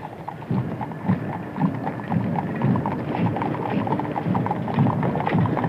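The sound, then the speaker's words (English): Steady hoofbeats of caisson horses on Capitol Hill clip-clop at a slow, even marching pace on pavement, continuous, with a faint outdoor murmur behind and no voices. “And now the hoofbeats of the horses of the caisson on Capitol Hill.”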